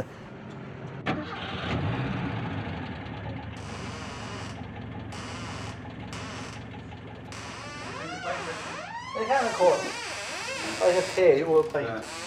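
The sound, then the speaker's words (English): A vintage car engine at a vintage car show in bad, wet weather turns over and catches with a sharp burst, then settles into a steady running rumble. Later, uneven revving and warbling sounds rise over the idle. “And as you see today, the weather is so bad and we have a large number of Cartinas here at the show as well.”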